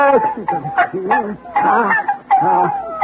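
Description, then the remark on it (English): Six puppies yip and whine in quick, overlapping high-pitched bursts, fairly loud, with the squeaky calls repeating every half second or so. “Puppies, darling. Yes, sir. Six of them.”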